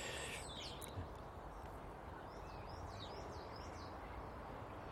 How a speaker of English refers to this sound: Hello, Miss Blackbird. How are you this morning? Have you had any disappointments in your morning life?